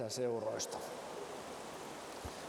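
Steady rain patters on the roof of a service tent during a summer service, a soft continuous hiss of drops that fills the space after a brief voice at the start, with no distinct individual hits.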